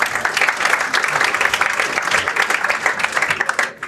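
Sustained audience applause at a congress, a dense, steady wash of many hands clapping at once, loud and even throughout before thinning slightly at the very end.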